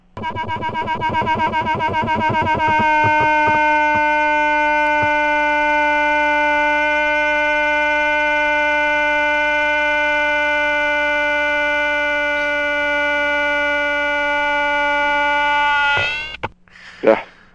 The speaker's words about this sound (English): That is a leafhopper that's a specialist on honey locust trees, and we're working with that right now. It's attended by ants.